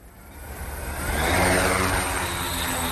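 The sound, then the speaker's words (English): A police drone whirs overhead above streets in Italy during the nationwide lockdown, watching for people breaking limits on movement; its steady motor drone swells louder as it approaches and then holds constant, with no voices. “From the streets of Italy, they're sending up eyes in the sky, police drones to watch for anybody breaking limits on movement, using every method to stop the flow of people and the virus.”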